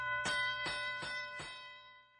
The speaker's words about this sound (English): Ricky hears the school bell ringing. We have to go to class now, says Trish.